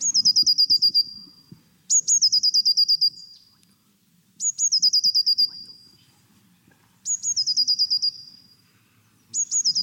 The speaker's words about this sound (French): Mais oui, c'est le chant d'une mésange bleue.